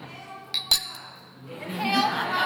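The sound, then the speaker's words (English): Two quick glass clinks, bright with a short ringing tone, as glasses touch in a toast; a low murmur of voices rises afterward. “Let's do a toast. Here's to the continuance of apples and cider, and all of us, the bees, the days, the seasons, the years.”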